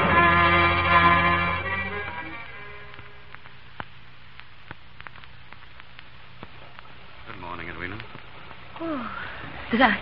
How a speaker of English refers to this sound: How's the weather this fine morning? Raining. The water's rising every second.